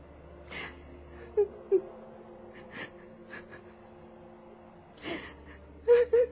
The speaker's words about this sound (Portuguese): No entanto, Lívia, ao passar pela porta do aposento da filha, percebe a pobre jovem chorando, sozinha em seu leito, abandonada novamente pelo marido adúltero.